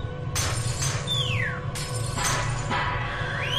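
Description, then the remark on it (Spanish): At the opening of a 1989 song, a series of sharp crashes, like objects being thrown and glass shattering, about five bursts over a low steady rumble, with thin high squeals sliding downward between them. “A mí me gusta el principio porque ahí efectivamente se oye el lanzamiento de objetos, se oyen unos sonidos extraños.”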